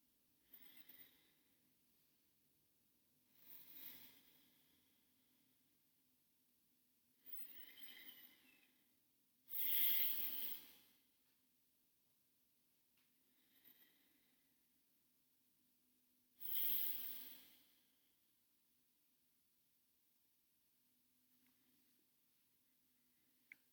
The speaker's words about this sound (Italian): Chiudiamo gli occhi e facciamo qualche respiro profondo.